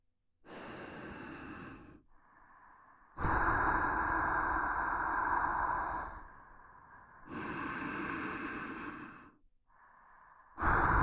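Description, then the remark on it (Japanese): Close, breathy exhalations blown right at the ear, several long airy puffs with short pauses between them, loud and intimate with no talking. “これで片耳で吐息浴びせながら、もう片耳でささやいたり、両耳から同時に吐息浴びせたりしてあげるね。”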